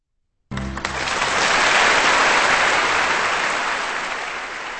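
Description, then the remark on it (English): A large audience bursts into sustained applause for the BBC Symphony Orchestra after a brief final chord of Antonín Dvořák's Symphonic Variations (composed 1877), broadcast on Kansas Public Radio; the dense clapping swells and holds steady at a fairly loud level, without any talking. “Applause for the BBC Symphony Orchestra and the symphonic variations composed in 1877 by Antonín Dvořák here on Kansas Public Radio”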